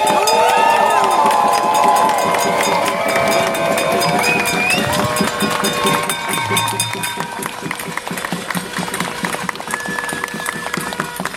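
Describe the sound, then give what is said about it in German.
A large outdoor crowd of about 35,000 protesters in the street cheers and shouts continuously, a dense wall of many voices with whistles and calls rising over it, loud throughout, easing slightly toward the end. “35.000 Menschen gehen heute mit Silke, mit Roda und mit mir zusammen auf die Straße und sagen, wir haben es satt”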